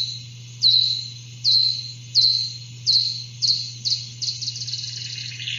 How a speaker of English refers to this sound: Like this eastern red bat, a migratory species which popped up at microphones Wisniewski put near bodies of water on the edges of forest.